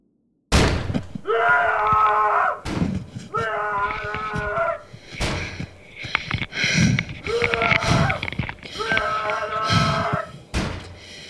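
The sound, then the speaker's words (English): Someone bangs heavily on a hotel room door at 2:37 in the morning, about every couple of seconds, alternating with a voice shouting a name in long, drawn-out calls. Loud, with no other sound around it. “I'm in my hotel room and woke up to someone banging on the door and shouting my name.”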